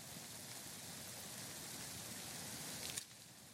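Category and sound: nature, rushing waterfall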